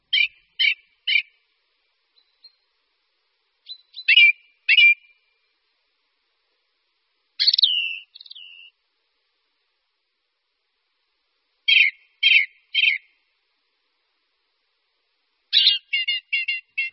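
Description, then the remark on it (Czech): Ring ouzel song: short bursts of two to four clear, fluting notes repeated at intervals, with a longer slurred phrase in between, sung alone against a quiet background. “Jde o zpěv kosa horského, kterému se také říká kolhřivec.”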